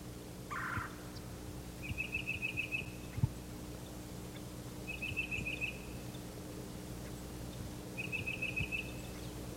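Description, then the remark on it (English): A mixed flock of songbirds, including cardinals, titmice and myrtle warblers, gathered in a bare turkey oak, calling, with a short high trill repeated three times at steady intervals and a brief chirp at the start, all over a low, constant background hum with no talking. “There are many birds, cardinals, titmice, myrtle warblers.”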